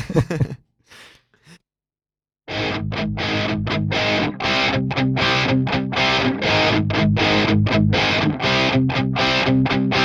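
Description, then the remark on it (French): A couple of short breathy sounds, a brief pause, then a loud, heavily distorted rock song bursts in on a live radio broadcast, with pounding drums and dense, driving guitars that keep up a steady rhythm. “Ça envoie du pâté, je te propose d'écouter …”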